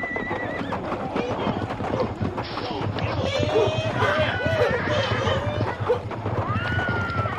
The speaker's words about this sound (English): We didn't say any more after that, because some more cowboys came racing in, their horses covered with lather and dust.